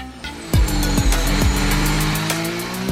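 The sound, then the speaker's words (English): High-revving Formula 1 race car engines roar continuously at the Suzuka track, tyres squealing, with repeated sharp downward pitch sweeps as cars rush past, loud and rhythmic with no talking. “As they make their way through and off into the wall, goes the two cars and a big crash into the tyre barrier.”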